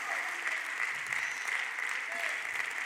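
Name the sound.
audience clapping hands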